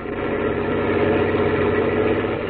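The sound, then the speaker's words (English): The engine of a 20-ton truck in the radio drama Gangbusters runs steadily, a continuous loud mid-to-low rumble with a faint vibrating hum that holds even for the whole stretch, no voices over it. “We can run away from cops in a 20-ton truck.”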